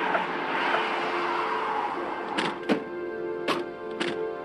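Police cars idle and roll into a cul-de-sac with a steady engine rumble, followed by four sharp thunks like car doors shutting in quick succession. No one speaks.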